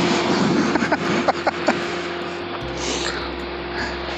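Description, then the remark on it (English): A running car engine, with someone standing on the car, runs steadily, a constant low drone with a faint tonal hum. A few sharp taps punctuate the first half, and the rumble deepens slightly toward the end. “You're standing on a car that's running.”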